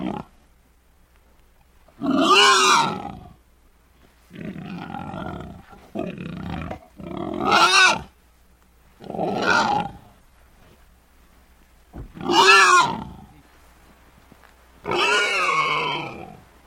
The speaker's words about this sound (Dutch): Het varken ging behoorlijk tekeer. Het gekrijs was over het hele erf te horen.